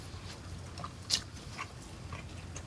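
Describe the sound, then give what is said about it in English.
A man chewing on a meat leg torn from a carcass in a dining room: a few soft, moist bites and smacks at irregular intervals, quiet over a low background hum, with no talking. “He tears the other leg from the carcass and begins to eat it.”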